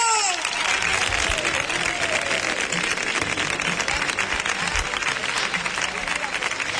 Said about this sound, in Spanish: Un aplauso enorme